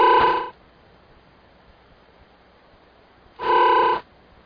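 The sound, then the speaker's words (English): Two buzzy, synthetic duck quacks, each about half a second long with a nasal, harmonic tone, separated by roughly three seconds of quiet hiss. No one speaks. “All right, I just heard a really strange, I don't know, computer-generated one.”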